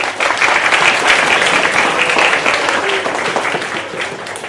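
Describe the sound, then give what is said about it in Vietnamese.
A group of children clap together at the end of a story they listened to. The applause comes in a steady, dense burst that holds fairly loud for several seconds before easing slightly at the end. “Sư cảm ơn các con vỗ tay là chú ý lắng nghe, và sư cũng không thấy bạn nào ngủ hết.”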